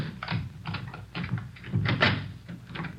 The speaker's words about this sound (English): Oh, all right. Let me get the door open.